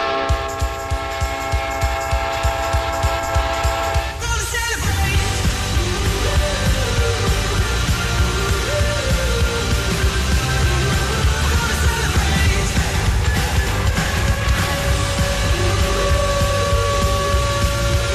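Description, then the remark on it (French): The Winnipeg Jets goal horn blares after a Jets goal as a loud, steady, deep chord for a few seconds in their arena of about 15,300, one of the smallest in the league, then the roaring crowd erupts into sustained cheering and yelling with a tune playing over the noise. “Imaginez-vous dans un amphithéâtre de 15 300 à peu près pour les Jets. C'est un des plus petits de la Ligue, mais ils viennent de marquer, puis ça, ça part.”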